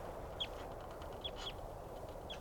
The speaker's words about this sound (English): Stop. Recording that wild bird still calling from some distance away now. That's her.